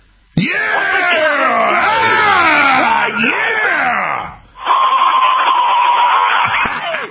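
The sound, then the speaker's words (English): A loud yelled battle cry with a wavering, rising-and-falling pitch, held for about four seconds, followed after a brief break by a second sustained shout on a steadier note. “How about all the info warriors right now, like around the walls of Jericho, we give the loudest battle cry that the pink old commies have ever heard?”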